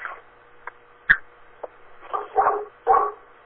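A dog barks several times, with short sharp yaps early on followed by two fuller, louder barks near the end, against quiet background.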